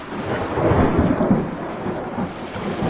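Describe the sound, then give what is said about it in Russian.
Deep, rolling thunder from a strong storm at sea, heard at a lighthouse at night, rumbles through a steady wash of heavy rain, swelling loudly near the start and continuing unbroken for a few seconds, with no voices. “Алик родился на маяке в ночь, когда на море была сильная гроза.”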